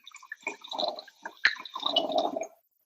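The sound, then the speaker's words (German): Wine glugs and splashes into a glass for tasting for a few seconds, a bubbly liquid gurgle with a sharp clink partway through, then the pour stops. No one speaks. “Und deshalb würde ich sagen, dass wir da jetzt mal direkt das Glas füllen und den Wein probieren.”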